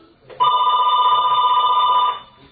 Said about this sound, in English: Sorry, the phone rang. I just unplugged it.